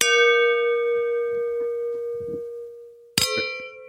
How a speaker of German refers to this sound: Aber okay, sollen wir anstoßen? Oh ja, anstoßen. Ich hab das jetzt eingeschenkt, ohne gluckern zu lassen. Genau. Du hast also zwei Gläser da stehen. Ich auch. Ha. Das hört überhaupt nicht mehr auf zu klicken. Geil, das mache ich nochmal.